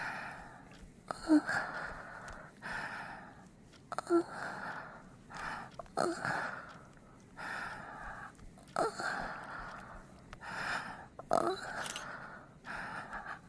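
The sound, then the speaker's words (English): Heavy, rhythmic breathing with breathy gasps and sighs, roughly every two seconds, each exhale a loud, airy rush. No talking. “Keep breathing on me like that.”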